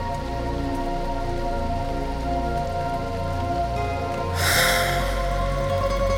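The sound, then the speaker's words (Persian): Steady rain pours down, a dense continuous patter on a hard surface, with a low hum beneath it and a brighter burst of splashing toward the end. “بارون که میزنه دلم میخواد چترم رو بردارم برم تو خیاب”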